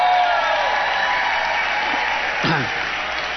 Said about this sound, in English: Hey, let's give her a round of applause right there.